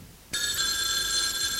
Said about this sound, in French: L'après-midi, le téléphone sonna.